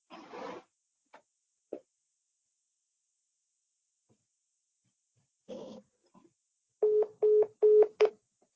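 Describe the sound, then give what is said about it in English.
A short run of telephone keypad dialing tones, about four or five clear steady beeps in quick succession, preceded by a few scattered faint clicks and rustles against near silence. “Do you want to try to call her back? I will ask her to call probably through my office phone, maybe.”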